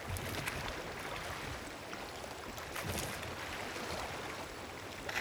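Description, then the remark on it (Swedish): Water sloshes and splashes steadily around a large rowboat on a calm lake surrounded by green forest in sunshine, with occasional louder dips of oars breaking the surface as a choir rows with four pairs of oars, with no voices. “En stor roddbåt på vattnet. Det är kören som är ute och ror på sjön i solskenet.”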